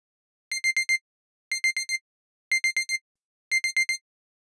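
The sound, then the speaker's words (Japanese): An alarm clock beeps in quick bursts of four, repeating four times at a steady pace with short pauses between groups. The tone is bright, electronic and clear, with no voices. “目覚まし時計は鳴る前に止めておきました。なーんてね。”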